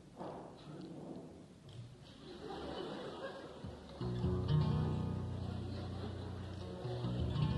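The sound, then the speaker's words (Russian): A deep, rolling rumble of thunder fills the first few seconds over a murmuring, chuckling concert audience, then a steady instrumental music passage for the next song begins and carries on loudly. “Бывает, конечно, всякое впечатление оказываешь на аудиторию, но чтобы это выражалось в громе небесном.”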